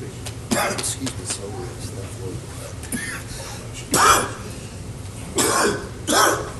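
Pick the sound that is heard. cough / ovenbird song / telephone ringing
cough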